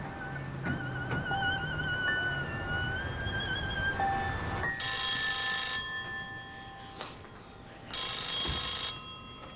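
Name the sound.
telephone ringing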